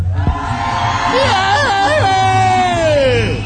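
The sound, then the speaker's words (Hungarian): A crowd in a packed tent in Gyula cheers loudly and steadily, with a few whooping shouts rising and falling above the dense, continuous roar. “Kedves népem, kedves hallgatóink, Gyulán vagyunk, zsúfolásig telt sátorban, őrjöngő tömeg előtt!”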